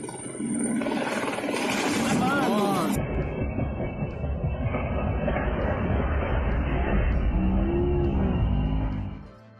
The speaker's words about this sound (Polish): Przenosimy się na jakiś parking, gdzie właśnie najprawdopodobniej ląduje helikopter medyczny.